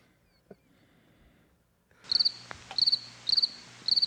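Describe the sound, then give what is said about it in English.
After a couple of seconds of near silence, crickets start chirping in steady, evenly spaced bursts, a clear repeated trill at a moderate level with no voices. “Cue the crickets.”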